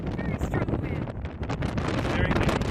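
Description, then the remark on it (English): Loud, steady wind buffets a microphone outdoors at Red Rocks lookout above Kangaroo Valley, Canberwarra National Park, about 2 hours south of Sydney, on a warm, windy winter's day. It is a continuous low rumbling roar with gusty flutter that never lets up for the whole few seconds. “It's an incredible view on a warm and windy winter's day.”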